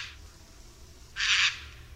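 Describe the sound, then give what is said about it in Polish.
A single harsh, raspy screech of a Eurasian jay's alarm call, signalling danger, rings out clearly for about a third of a second, preceded by a fainter similar rasp at the start, over a low background rumble. “typowym głosem sójki są skrzekliwe okrzyki, którymi sygnalizuje ona pojawienie się niebezpieczeństwa.”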